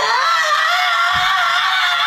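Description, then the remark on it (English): A voice imitates a woman screaming: one sustained, high-pitched, piercing shriek held loud and steady for about two seconds, alone with no talking. “And then she just starts like screaming like...”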